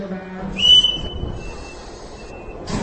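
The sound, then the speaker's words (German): A single long, shrill whistle sounds over a low, steady rumble of a special train standing at a station in Prague at 8 in the morning, about to run from Prague to Hof, with a brief burst of louder noise at the end. “Es ist morgen 8 Uhr und ich steige hier in Prag in den Zug der Freiheit ein.”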